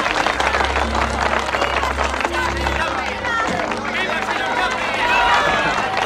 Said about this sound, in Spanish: En el Strand Theater de Nueva York todavía resonaba la gran ovación que el público del estreno había dedicado a La Quimera del Oro